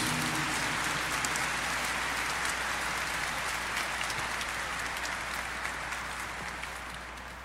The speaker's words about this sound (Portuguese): Uma bonita salva de palmas para a palavra de Deus.